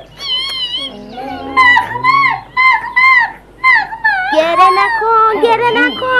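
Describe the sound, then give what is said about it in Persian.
A dog whimpers and whines in a string of high, wavering cries that rise and fall in pitch, coming in short bursts before a longer, more continuous stretch of whining. “این سگ زبون بسته چیکار به کار تو داره؟”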